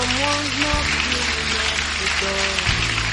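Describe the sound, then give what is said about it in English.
A crowd claps for Jesus steadily in a dense, continuous wash of applause, with sustained low musical tones, like an organ or keyboard, playing underneath. “The rest of us, let's clap for Jesus, for those who are coming.”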